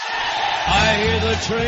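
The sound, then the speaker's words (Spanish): A crowd of prison inmates at San Quentin, a high-security prison in California, applauds and cheers in a dense, steady roar with scattered whoops and yells. A lower, voice-like tone rises underneath partway through. “los aplausos son de los presos de la prisión de alta seguridad de San Quintín, ubicada en el estado de California.”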